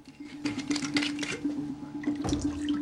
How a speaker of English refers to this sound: He unscrews the cap on a bottle of whiskey and pours himself a glass.